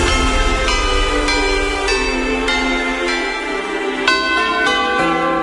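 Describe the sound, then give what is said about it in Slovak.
Church bells ring out at 5 p.m. over the countryside of the village of Liptovský Peter in a steady peal, each strike landing about half a second apart, their loud metallic tones overlapping and sustaining into a dense, resonant wash with no voices. “Zvony nad krajinou.”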